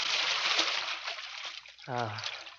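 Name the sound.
person slipping into water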